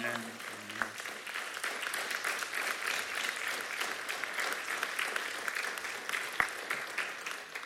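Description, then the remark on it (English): An audience at New Life Christian Ministries breaks into sustained applause to welcome a woman coming forward, dense and steady clapping filling the whole stretch, with a brief voice at the start and a couple of sharper claps standing out. “And as she comes, can you just welcome her with your amen as a round of applause?”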